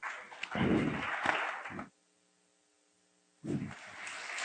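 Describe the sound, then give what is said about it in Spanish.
An audience claps for the instructor who has just given his talk, in a dense, crackling burst of applause, which stops abruptly into a low electrical hum before a second round of clapping starts up again. “Un aplauso para el instructor que nos ha impartido su tema,”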